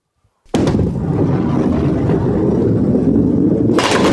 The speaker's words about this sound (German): Und hier mit der Kugel versuche ich gleich die Kegel da hinten umzukegeln. Passt auf.